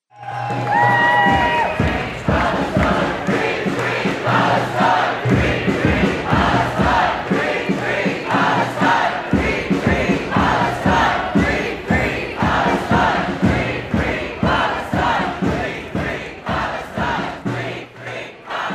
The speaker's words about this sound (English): The crowd are approaching the Dáil from Molesworth Street in Dublin, urging the government to pass the Occupied Territories Bill.